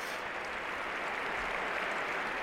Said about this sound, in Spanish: Se marcha andando el futbolista brasileño del Real Madrid. Le aplauden, tampoco mucho, no es una ovación atronadora.